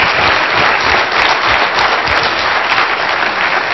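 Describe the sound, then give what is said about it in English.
Sustained applause from an audience, a dense steady clatter of many hands clapping at once, loud and even throughout with no voices standing out. “Let's hear, give her the applause that she deserves.”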